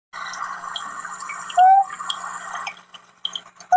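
Morning swamp ambience: a steady, dense chorus of chirring and trickling, watery sounds, broken by two brief rising whistle-like calls. No one speaks.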